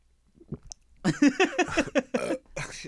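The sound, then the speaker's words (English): A voice imitates a girl's loud gulping while drinking, a run of about five throaty, wet swallowing sounds in quick rhythm, fairly loud, after a couple of quiet mouth clicks. “Every time she would drink something. Dude, next time you hang out with Mariel, yeah. This girl, gulper like a motherfucker.”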